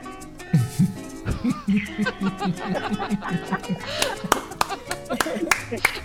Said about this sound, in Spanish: Más aplausos porque estuvo buenísimo. No, los aplausos están ahí.